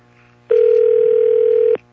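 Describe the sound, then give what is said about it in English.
A single steady telephone ringback tone, the buzzing ring a caller hears on the line, sounds for just over a second at moderate volume before cutting off, with quiet line hum around it. “Is that a ring?”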